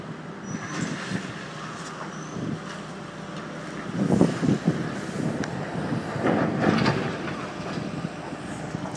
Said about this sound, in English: So now the lorry's gone and all we can hear now is the digger, that's it. What's it doing, please?